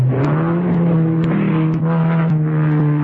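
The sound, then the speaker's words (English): A car engine roars loudly, its pitch climbing as it revs and accelerates, then holding a strong steady drone for the rest of the few seconds, with no voices. “For the man who knows how to handle his car.”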